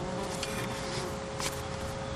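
A steady, low drone of bees swarming around a person, fairly quiet and continuous, blended with soft outdoor background noise and no clear talking.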